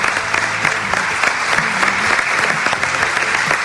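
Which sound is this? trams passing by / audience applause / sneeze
audience applause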